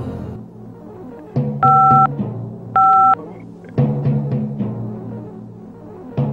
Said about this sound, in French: Je ne suis pas là pour l'instant. Laissez votre message. Après le bip sonore.